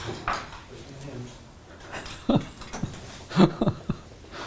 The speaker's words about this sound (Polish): Damy radę coś zrobić z pieskiem?